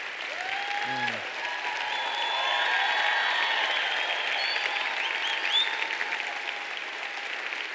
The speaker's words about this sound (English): And from all of us, can we just give him another round of applause?